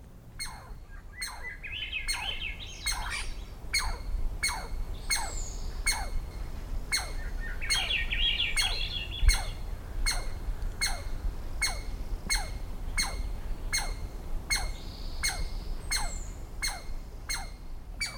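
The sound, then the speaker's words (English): Swainson's thrush calls mingle with a squirrel's alarmed chatter: sharp, evenly spaced chips repeat steadily throughout, while brief bursts of rising, whistled notes appear a couple of times over soft background noise. “In the following recording, Swainson's thrush and an alarmed squirrel share the soundstage.”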